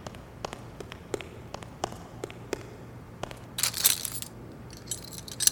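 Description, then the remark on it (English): A series of small, sharp metallic clicks and taps, then a brief burst of louder rattling, as the handle of the locked door to the furnace room is tried, with no talking. “Ah, locked. Just as we suspected”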